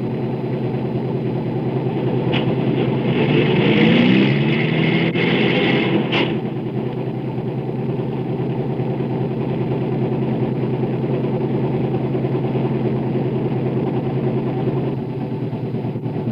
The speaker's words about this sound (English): Now it is November, the last of the laborers, in trucks, buses, and cars, approach the southern states to start the cycle all over again.